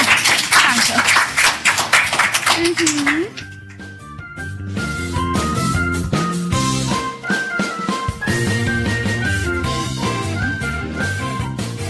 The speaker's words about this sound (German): Vielen, vielen Dank, dass ihr am Mikro wart und nochmal einen Applaus für euch.